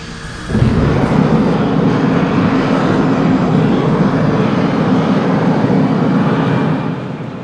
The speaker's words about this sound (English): Kaku presses a few buttons and pushes forward on a throttle. The blue engine roars to life, the landing legs retract.